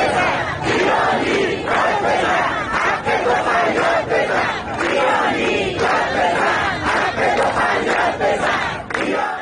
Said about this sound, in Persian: آنها پنجشنبه روبروی استانداری جمع شدند و حق مسلم خود را فریاد زدند. آب، برق، زندگی. بنا به آنچه در شبکه‌های اجتماعی منتشر شده، معترضان تا تاریک شدن هوا در خیابان‌ها ماندند و شعار دادند.